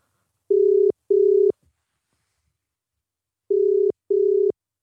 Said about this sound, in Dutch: Dus toen hebben we even het telefoonnummer ingetoet.